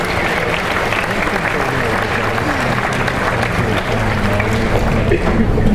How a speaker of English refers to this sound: So let's give our parents and friends a round of applause.